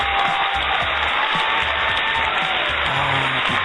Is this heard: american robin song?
no